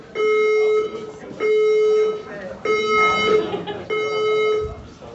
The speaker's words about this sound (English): was that the alarm that goes off when Granny goes to the toilet? Well, that's when you need to run for your life.